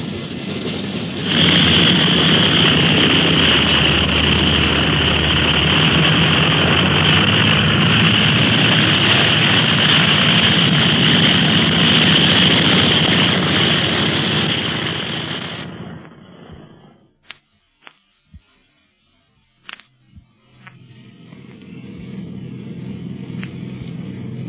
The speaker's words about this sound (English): What a plane. You can hardly hear the motors back here in the cabin. I never worry about motors so long as I hear them. It's when I'm up in the air and don't hear them that gets me fucked.